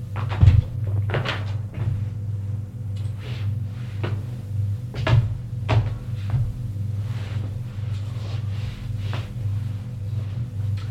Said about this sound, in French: La mère dit: asseyons-nous. Et ils vont s'asseoir sur des fauteuils.